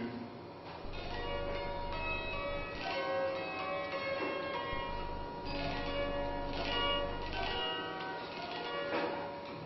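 Church bells peal continuously, several overlapping strikes ringing out with long shimmering tones that blend into a dense, resonant clangor, loud and steady throughout.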